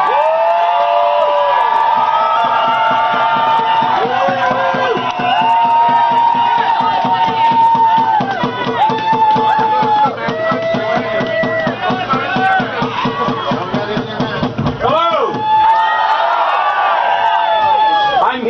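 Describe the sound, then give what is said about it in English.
A big crowd in a park cheers and whoops loudly for about eighteen seconds as a speaker comes up to address it, many voices yelling and hollering over one another in a sustained roar with rising shouts scattered throughout. “who just wants to address the crowd for a minute.”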